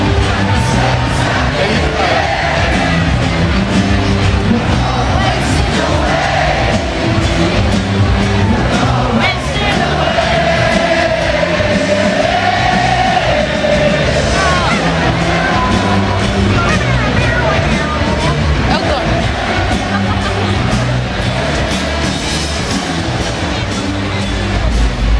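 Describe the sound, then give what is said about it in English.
A dense festival crowd roars continuously, with overlapping chatter, scattered shouts and cheers layered into a loud, unbroken wall of noise. “I don't feel very live, and now we're going into the crowd and I'm scared.”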